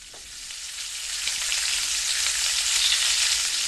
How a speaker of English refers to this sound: The sound of sizzling bacon and the delicious smell that goes along with it is a good indication of how far along the cooking is and whether it's time to turn it or serve it up.